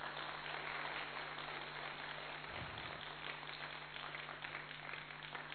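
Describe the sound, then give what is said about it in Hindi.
Steady audience applause at a talk, clapping at the speaker's request: a dense wash of many hands clapping at once with no voices on top, holding an even, fairly loud level throughout. “ताली बजाओ ना जरा।”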